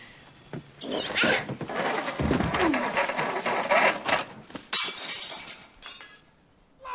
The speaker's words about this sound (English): Nature of claim. Christmas tree through window.